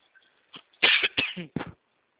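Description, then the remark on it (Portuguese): A short fit of dry coughing, a quick cluster of about four harsh, hacking bursts, the middle ones loudest, with no talking. “Nossa, hoje vou ter que comprar aquele remédio de tosse seca. Tosse seca.”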